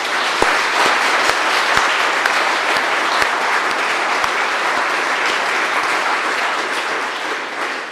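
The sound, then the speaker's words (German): A church audience applauds steadily during a service to welcome the new confirmation group, a dense wash of many hands clapping at a loud, even level with a few sharper individual claps standing out, and no one speaking over it. “Und ich denke, wir begrüßen die auch alle mit einem kräftigen Applaus.”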